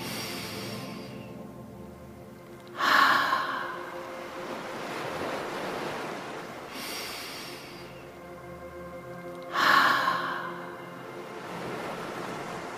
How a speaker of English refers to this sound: Breath in through your nose. Open your mouth and let the air come out like the ocean. Let's try 2 or 3 more gentle ocean breaths.